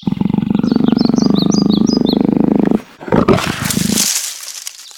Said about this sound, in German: Denn umso dichter er der Lichtung kam, umso lauter wurde das Wimmern und Knurren, das Schnauben und Hecheln.